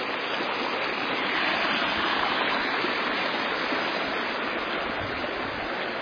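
creek water flowing

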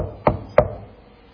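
knocking on wood

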